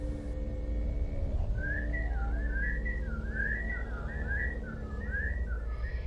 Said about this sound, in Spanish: Los silbidos volvieron.